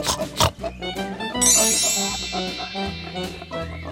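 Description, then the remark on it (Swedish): Pigs grunt and snort in a steady, busy series, fairly loud, as they gobble potatoes that children throw into their feeding trough, with a bright ringing tone sustained over the second half. “De lunkar sakta fram och tillbaka och grymtar, precis som grisarna gör.”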